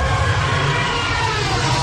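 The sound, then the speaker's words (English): A loud, sustained roaring screech, a trumpeting elephant call mixed into the hissing rush of a car driving on a wet road, steady for the whole moment, with no speech. This mix was made as the sound of the Star Wars TIE fighters flying through space. “The sound of the Star Wars TIE fighters flying through space was made by mixing an elephant's call into the sound of a car driving on wet roads.”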